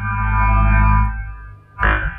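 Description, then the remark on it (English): An electric guitar chord rings out through an Ampeg amp, swelling and sustaining before fading into a reverb tail, then a second strum hits sharply and starts to decay. “Yeah, there's reverb there.”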